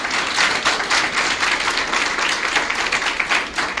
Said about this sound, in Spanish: ¿Cuánto bendicen al Señor? Denle ese aplauso al Señor y dígale gracias, Señor, por su palabra.